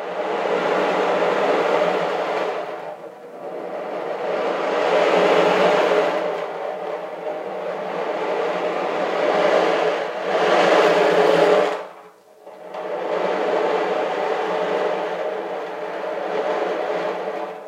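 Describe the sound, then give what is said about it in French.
An ocean drum, a kind of circular rain stick used to accompany tales, gives a steady, hissing rush of rolling beads that swells and ebbs like surf, with a brief lull near the middle before the wash resumes at even strength. “La réponse est un tambour d'océan. C'est une espèce de bâton de pluie circulaire.”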